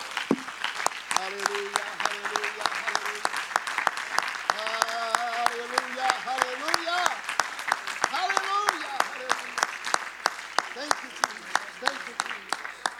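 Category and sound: crowd, audience applauding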